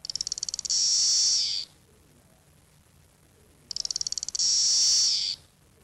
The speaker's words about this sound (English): They've changed. They come from their larval stage and the wings have come out. They can't crawl back and lose the wings. Did it sing, that lone cicada? Yeah, it was singing.